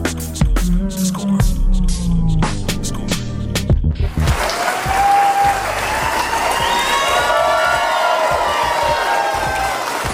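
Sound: crowd yelling and cheering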